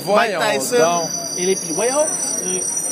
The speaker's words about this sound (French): ça, c'est un cri de truc de vidange, ça.